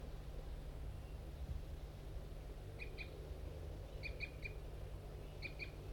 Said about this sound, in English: Recording those wild birds, I think two females are still in that pine tree and they were giving a few flight calls. Definitely large race birds.